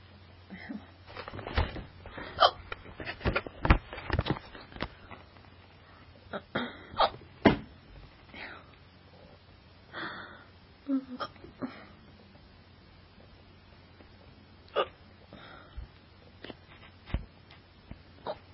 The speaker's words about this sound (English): Yeah. I got hiccups again.